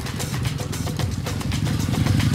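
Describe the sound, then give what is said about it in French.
A motorcycle engine, ridden each morning to an office in a modern district on the city's outskirts, idles with a steady, throaty rumble and rhythmic mechanical clatter, fairly loud, running continuously without any voices. “Chaque matin, c'est en moto qu'il se rend à son bureau dans un quartier moderne, en périphérie de la ville.”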